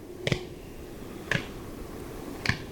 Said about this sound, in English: During the spring mating season, males display to females in zigzag flight while clapping their wings together.